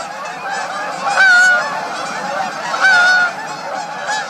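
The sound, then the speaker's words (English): Migratory Canada geese honk in a noisy flock in October, overlapping calls rising in two louder bursts over a steady chorus of honking, with no voices present. “The caroling of robins gives way to the clamor of migratory Canada geese.”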